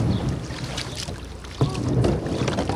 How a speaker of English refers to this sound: climbs into a little kayak and, using a broom as an improvised oar, paddles around the neighborhood, mostly of mobile homes, checking out the damage.